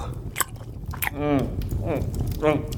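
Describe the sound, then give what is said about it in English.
Wet chewing of paper with a few crisp crunchy bites, broken up by muffled, strained vocal grunts as someone talks or groans through a mouthful of paper. “1 minute he's a florist and the next he's getting us to chew paper.”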